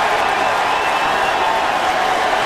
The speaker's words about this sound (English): The fans are shocked as well here in Wrigley. A shocking applause.